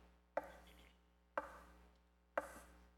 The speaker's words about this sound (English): Would you open the door? I mean, listen to what Jesus says. Can you hear the knock?